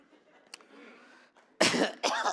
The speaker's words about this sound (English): Got to clear my throat on that one.